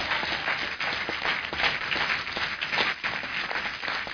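An audience claps loudly and steadily during a sermon, giving a clap offering to the Lord, a dense wash of many hands applauding together for several seconds without pause.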